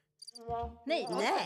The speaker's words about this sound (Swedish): Nej, det var en cikad.